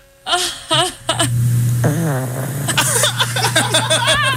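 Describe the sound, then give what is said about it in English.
A small snore: a low, buzzing rasp that drones steadily for a couple of seconds, overlaid with wavering, whiny high-pitched squeaks and whimper-like tones that come and go throughout. “That's a cute little, like, snore.”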